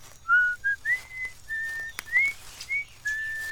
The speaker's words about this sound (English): I like you better when you're whistling.